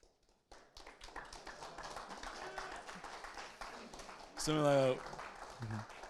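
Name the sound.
audience clapping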